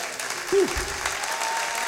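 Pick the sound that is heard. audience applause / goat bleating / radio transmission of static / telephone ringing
audience applause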